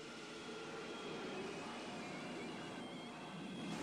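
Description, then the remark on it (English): An out-of-control elevated train runs steadily along its tracks, a loud, continuous rumble and rattle with faint metallic squealing tones, unbroken throughout, with no voices. “The car sees that he's gaining on the train.”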